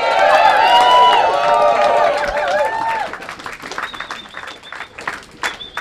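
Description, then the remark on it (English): A crowd of school staff at a rally bursts into loud cheering and whooping over applause, then the voices fade, leaving scattered clapping and a thin, high sustained whistle. “Folks, you need to give yourselves another round of applause.”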